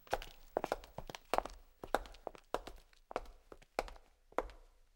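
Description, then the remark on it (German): Footsteps performed by a foley artist: a steady series of firm, close heel-and-toe steps with sharp clicks on a hard surface, repeating rhythmically with no talking. “Das Nachmachen von Schritten ist eines der Hauptgeschäfte von uns Geräuschemachern.”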